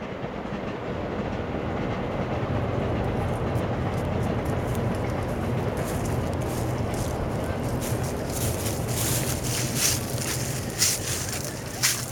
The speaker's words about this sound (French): Dehors, derrière le bâtiment, on entend les oiseaux et les trains. Entre le canal et le sable, on a vraiment du mal à croire qu'on est à Saint-Denis.